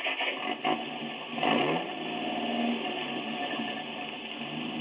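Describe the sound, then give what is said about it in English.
A truck engine cranks and catches with a rising roar, then settles into a steady, fairly loud rumble as the truck pulls away with a sled sticking about 2 feet off its back. No one speaks. “Let's get in the truck and go.”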